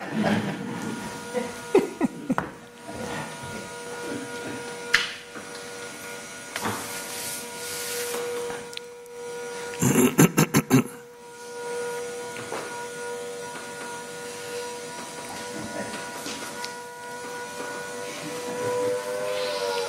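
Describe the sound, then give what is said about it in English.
A chainsaw buzzes, a steady droning whine that runs throughout, with a few brief louder surges and rattling bursts along the way. “Can I close that so we can hear the chainsaw?”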